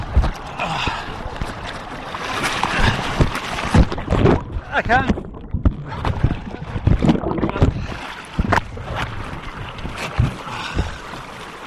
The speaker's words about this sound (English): Ah, I just hit a rock. And the water. The boat is... I'm hanging with the boat and I'm sliding down the river.